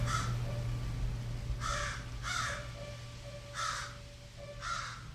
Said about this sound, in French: And it's crow. C'est un corbeau, c'est pas une corneille.